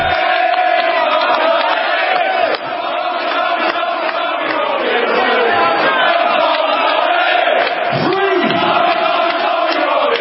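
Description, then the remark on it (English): A large crowd shouts continuously, a dense, loud roar of many voices with chanting rises and falls, sustained without a break for the whole stretch. “Just try ignoring this crowd.”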